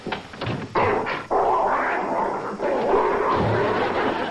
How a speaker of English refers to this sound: He put a damn killer dog in there.